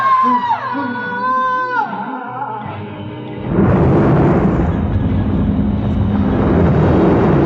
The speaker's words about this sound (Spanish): El auto levanta una columna de agua al estrellarse y luego desaparece bajo el mar. Las olas se agitan por un momento. Luego, Todo vuelve a la tranquilidad.